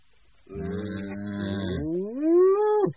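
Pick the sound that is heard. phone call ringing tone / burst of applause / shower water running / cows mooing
cows mooing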